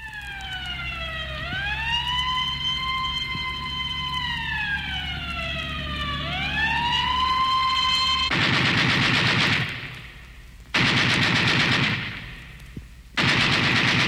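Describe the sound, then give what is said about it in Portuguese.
A wailing siren rises and falls for several seconds, then gives way to three loud bursts of rapid machine gun fire separated by short pauses. “E quando um tiro de metralha fez um rombo no caixão, o contrabando pelas ruas escorreu.”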